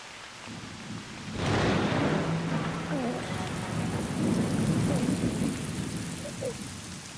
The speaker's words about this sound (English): My son, the rain is a blessing brought by your birth.